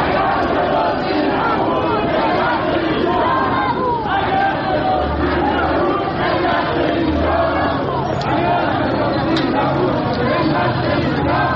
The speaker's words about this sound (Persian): گروهی از سهامداران حقیقی در اعتراض به ریزش مداوم بورس و برباد رفتن سرمایه هایشان در مقابل ساختمان شرکت بورس و اوراق بهادار تجمع کرده و اعتراضشان را فریاد زنند.